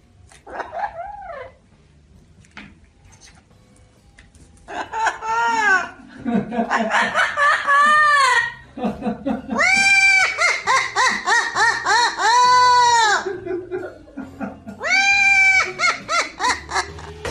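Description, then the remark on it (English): A parrot cackles wildly: bursts of loud, raspy, laugh-like squawks with swooping pitch, coming in rapid runs with short pauses, after a brief quieter call at the start. “And now, for your listening pleasure, here's a parrot I found on YouTube, cackling wildly.”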